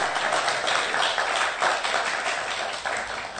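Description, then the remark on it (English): An audience applauds: many hands clapping in a dense, crackling wash that holds steady and fairly loud throughout, with no voices standing out. “First day of school. Round of applause, please.”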